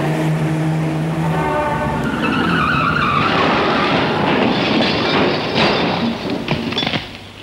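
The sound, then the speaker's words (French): A car's tires screech loudly in a long, wavering skid, then a burst of clattering impacts as the car crashes into another car and wedges itself into it, before the noise fades. “Putain, mais t'as vu le carnage? La bagnole s'est encastrée dans la première.”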